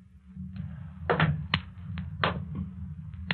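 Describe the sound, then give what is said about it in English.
Slow, stealthy footsteps outside a cottage: a series of soft, uneven thuds and scuffs, roughly seven or eight over a few seconds, set against a steady low rumble with no voices. “And now the approach of stealthy footsteps outside the cottage.”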